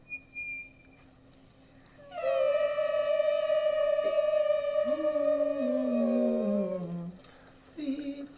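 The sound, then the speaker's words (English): After a brief, thin reference tone, a person hums one steady sustained note for about five seconds, loud, with a second lower tone sliding in near the end before it stops; it is the starting pitch given to an a cappella choral ensemble. “Hum it again.”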